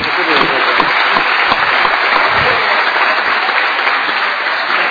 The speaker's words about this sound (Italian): Bene, un applauso adesso a tutti questi ragazzi insieme, mi sembra che è dovuto da parte nostra.